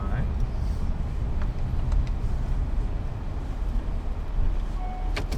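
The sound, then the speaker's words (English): A car's engine hums low and steady from inside the vehicle as it slowly maneuvers to parallel park, with a constant rumble filling the background and a few faint clicks and brief tones over it. “Up there and, like, parallel park over there? In front of that red Audi?”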